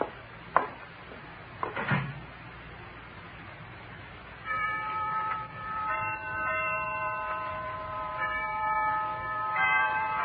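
The bells of Harkness Tower chime noon, sustained chimes overlapping and ringing on after a couple of brief sharp sounds at the start, with no one speaking.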